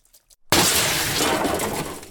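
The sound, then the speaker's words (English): During a science lab experiment, a glass beaker slips out of a hand and shatters on a hard floor with a sudden loud crash, followed by a bright, sustained tinkling spray of fragments that slowly fades; a few faint soft sounds precede it. “During an experiment, a beaker slips out of your hand. It might be a bit embarrassing, but broken glass happens sometimes during science labs.”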